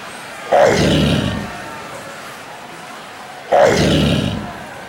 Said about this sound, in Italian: Non tremate, è l'urlo dei tigrotti, agguerriti più di prima, non tremate!